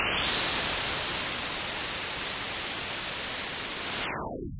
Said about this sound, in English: The same way that white light is a combination of every color, white noise is a combination of all the frequencies that we can hear.